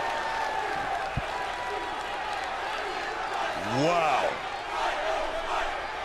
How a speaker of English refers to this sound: Oh, you hear the Raw crowd chanting "Fight Owens, fight!" too. We got some Owens fans fight.